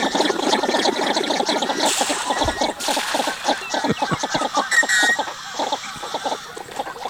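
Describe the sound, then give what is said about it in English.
Northern shoveler ducks giving repeated low, clipped tuk-tuk calls in a busy chorus, steady, with other waterfowl chatter mixed in throughout. “This is the northern shoveler.”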